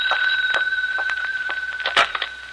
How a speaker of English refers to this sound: But then, the next day, as I walked into the house, the phone rang.